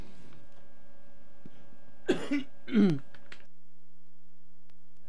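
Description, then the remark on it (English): Two loud coughs in quick succession, the first sharp and the second slightly longer and throatier, with a faint steady hum in the background and quiet before and after. “Had to cough there.”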